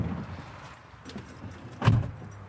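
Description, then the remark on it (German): A bus drives along with a steady low engine rumble heard from inside, and a brief rattling clunk rises near the end as it turns off the B5 onto a small country road toward Döberitz-Dalgow. “Westerkamps Bus biegt von der B5 auf eine kleine Landstraße in Richtung Döberitz-Dalgo.”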